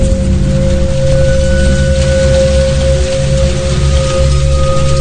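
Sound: rain falling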